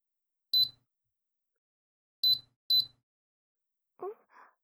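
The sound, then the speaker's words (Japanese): An air conditioner beeps as it switches on: three short, high-pitched electronic beeps, one alone, then a quick pair after a pause, followed by a brief soft breathy vocal sound. “エアコンさん、入れてきますね。”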